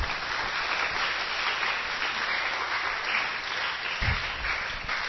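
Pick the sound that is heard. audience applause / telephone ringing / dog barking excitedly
audience applause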